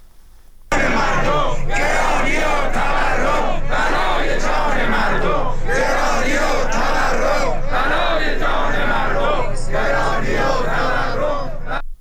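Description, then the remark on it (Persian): A large crowd of retirees of Iran's Social Security Organization, rallying in protest over their living conditions, chants loudly in unison, many voices rising and falling in steady rhythmic phrases with brief pauses between, sustained throughout without letting up. “بازنشستگان سازمان تامین اجتماعی امروز در اعتراض به شرایط معیشتی خود در تهران در مقابل مجلس و چندین شهر دیگر در مقابل استانداری‌ها تجمع کردند.”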